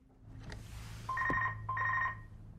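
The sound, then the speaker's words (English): A landline telephone in a hallway rings twice in quick succession, each ring a warbling trill about half a second long, clear over a low background hum. “She goes up a short staircase to a hallway where she picks up a landline phone from its cradle.”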